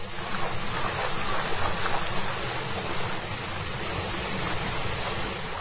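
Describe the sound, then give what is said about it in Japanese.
A steady, dense roar of rushing water from the Shiraito waterfall in the valley below a mountain path climbing from a temple toward the summit, continuous and unbroken for the whole stretch, fairly loud, with no voices or other sounds. “わずかばかり進むと、右手の谷下に白糸の滝というのがあるそうで、その滝音が聞こえてくる。”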